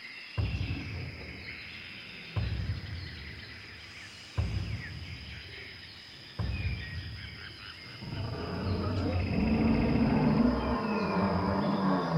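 Four heavy, booming footsteps, meant as an imagined dinosaur in a jungle thousands of years ago, land about two seconds apart, then a deep, rumbling monster roar swells and carries loudly through to the end, with no talking.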